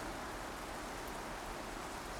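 Steady rain pours down in a dense, unbroken hiss, with a constant patter filling the background at an even, moderate loudness and no voices present. It is a cloudy day during the rainy season in India, in July.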